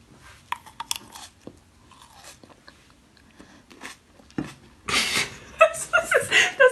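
Someone chews a crunchy snack, with scattered crisp bites at first and then a louder, denser stretch of crunching and smacking toward the end.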